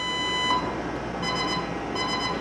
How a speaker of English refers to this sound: Normally you don't want to hear those in an underway situation. We're going into a minefield, or we're being attacked, or we're going to conduct an attack. That's collision alarm. When you hear that, something's gone south. So that's not good.